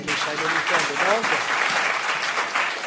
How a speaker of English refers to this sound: And then so just a round of applause for yourselves.